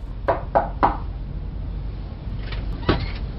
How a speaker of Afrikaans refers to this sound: Wag, ek klop weer.